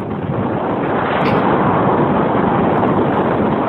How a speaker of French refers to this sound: Ce n'est pas un avion. Ah, j'allais dire un avion de ligne. Pas du tout. Eh bien, c'est le bruit assourdissant que fait un glacier lorsqu'il s'effondre.